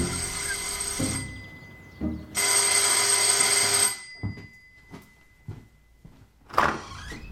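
A boy rings the doorbell at a family's front door right after school; it buzzes twice in long, loud, harsh bursts, followed by soft footsteps and clicks and then the door being opened.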